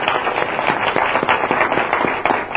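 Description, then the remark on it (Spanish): A crowd bursts into steady applause for a couple married 37 years, dense overlapping claps forming a loud, continuous crackle with no voices standing out, sustained throughout. “Creo que se merecen un aplauso, ¿no?”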